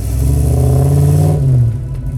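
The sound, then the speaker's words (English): A deep, throaty V8 sports car engine revs, its low rumble climbing in pitch and then easing off as the revs fall. No voices, just the engine. “Back when V8s were synonymous with sports cars, and cars with bigger displacement engines and more cylinders tend to make a deeper noise.”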